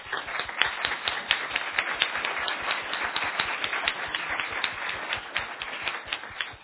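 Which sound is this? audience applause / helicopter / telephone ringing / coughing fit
audience applause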